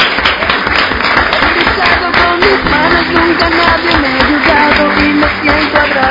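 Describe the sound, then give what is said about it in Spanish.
Sustained audience applause, a dense steady wash of clapping that holds at full loudness for the whole stretch, with some voices mixed into the crowd noise. “Y con este aplauso nos vamos,”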